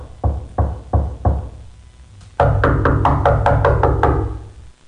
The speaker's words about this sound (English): Jim walks up and knocks. And knocks again, and the door opens.